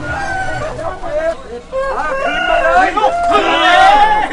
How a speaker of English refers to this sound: We pass a group of men packed shoulder to shoulder, swapping banknotes as they watch two roosters battle it out in a makeshift ring tucked inside one of the stalls. A couple of shops later, and the roosters' cries give way to birdsong.